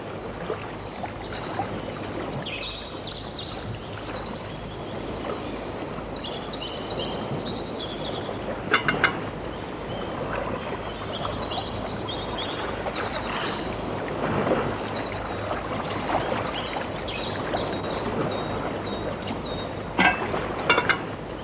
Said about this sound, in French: silence et bruit de l'eau et silence aussi de la lumière, enfin, parce que c'est un plan lumineux du point de vue visuel et sonore, et un réveil à une autre vie.